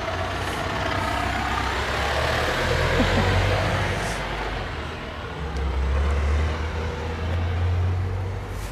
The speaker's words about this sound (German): Da kommt mal gerade ein Lastwagen, wir gehen mal zur Seite.